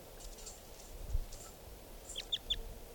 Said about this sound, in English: Recording bird 459.